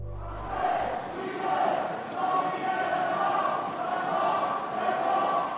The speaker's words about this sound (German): So klang es gestern Abend in der Berner Innenstadt. Dort versammelten sich über 500 Menschen zu einem Protestmarsch gegen die Ausschaffungsinitiative.